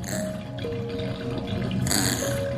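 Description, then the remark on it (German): Water is let out of a bathtub after a bath and drains steadily with a constant gurgling rush and a thin whistling tone that shifts in pitch, briefly swelling into a louder, splashier slurp near the end. “Sunny schaut aufgeregt grunzend dem abfließenden Wasser hinterher”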